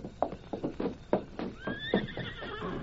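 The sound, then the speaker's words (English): Horses waiting with a stagecoach: one whinnies with a high, wavering cry while hooves clop in an uneven, steady rhythm, with low shuffling and scraping underneath. “The stage is all ready and the horses are waiting.”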